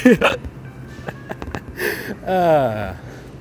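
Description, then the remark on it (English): Several quick, sharp hiccups spaced about a quarter second apart, between brief wordless vocal sounds and a drawn-out voiced exhale. “People will probably notice the hiccuping more than the podcasting, if I had to guess.”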